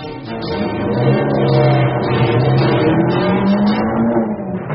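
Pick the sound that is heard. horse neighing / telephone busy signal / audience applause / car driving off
car driving off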